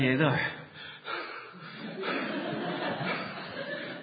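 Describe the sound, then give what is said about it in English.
A voice imitates the heavy, rapid panting of four people who have just won a race, a run of breathy gasps and huffs, loud and steady for several seconds with no words spoken. “They're all then panting away.”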